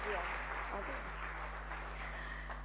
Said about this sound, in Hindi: जोरदार तालियों से स्वागत करते हैं